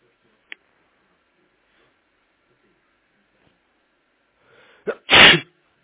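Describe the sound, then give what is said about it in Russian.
A single loud sneeze near the end, preceded by a quick sharp intake of breath, with a brief click early on and near silence in between. “Будь здоров.”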